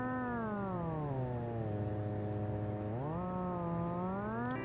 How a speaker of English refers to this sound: We use the average of the residual image to control the pitch of the audio tones that you hear.